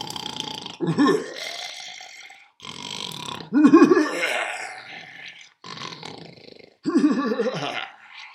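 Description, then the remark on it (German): A voice imitates the Devil's heavy, monstrous snoring: three deep, rattling growls, each one trailing into a breathy, hissing intake of air, in a slow, repeating rhythm. “Der Teufel schlief wieder ein, bis er zu schnarchen begann.”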